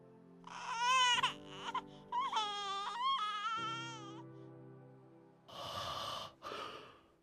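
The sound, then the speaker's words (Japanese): A newborn baby, just born in a lighthouse, cries in high, wavering wails, first in short bursts then a longer run, followed by breathy, noisy whimpers and gasps, fairly loud, with no one talking. “生まれたての子供なんて初めて見たな。どうしよう。赤ん坊はふわふわと笑い、柔らかく、その体は本当に赤かった。”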